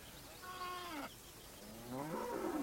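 Two drawn-out moos ring out one after another from cows at a bend of a river, the first a steady low bellow and the second rising and straining, fairly loud with no talking.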